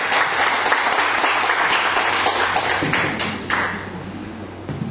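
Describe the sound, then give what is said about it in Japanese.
Steady audience applause at a club meeting fills the whole stretch, a dense wash of many hands clapping, fairly loud and continuous with no voices over it. “それでは皆さん、絶大な拍手を呼びにお願いします。”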